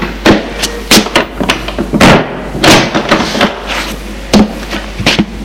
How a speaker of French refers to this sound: Elle ferme la porte.